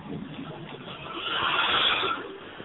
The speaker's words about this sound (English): Nah, that was a truck going by. You know, New York is noisy as hell.